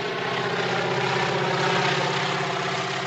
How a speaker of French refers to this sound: Immobile et résigné, j'entendis le ronflement se rapprocher. Je vis ensuite un aéroplane surgissant de l'est.